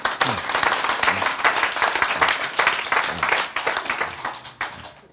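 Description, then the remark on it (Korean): An audience breaks into steady applause, many hands clapping in a dense, crackling wash that holds for about five seconds before tapering off at the end. “박수.”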